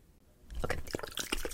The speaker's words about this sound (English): Okay. This is a setting spray. Setting spray.